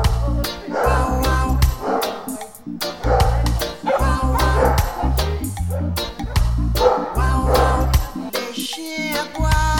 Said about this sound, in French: J'ai prévenu déjà le groupe là en leur disant que ça pouvait sentir fort et que là, il n'y a pas beaucoup de chiens, mais des fois, il y a beaucoup d'aboiements, ils sont excités dès qu'ils nous voient.